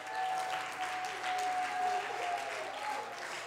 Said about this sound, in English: Somebody ought to clap your hands.